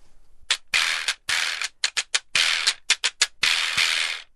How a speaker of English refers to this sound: Wow. And that's all with a deer horn and a donkey jawbone.